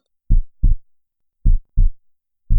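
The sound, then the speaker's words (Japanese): A loud, deep heartbeat thumps in lub-dub pairs, repeating roughly once a second, booming with nothing else around it. “心臓がドキドキして破裂しちゃいそう？”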